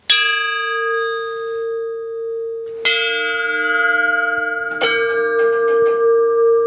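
A makeshift metal bell, made from the top of a gas cylinder or an artillery shell casing in place of cast bronze, is struck three times, each clang ringing with bright, lingering overtones and decaying slowly. No one speaks.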